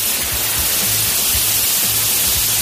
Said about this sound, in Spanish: Pero la noticia del día, ¿qué quieres que te diga? Es estupenda. En España llueve.